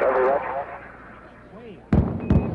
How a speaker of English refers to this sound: Take a listen to an unmanaged sonic boom. This one from the Space Shuttle Discovery on its way to a landing, when it was something like 45 miles away and way up in the stratosphere.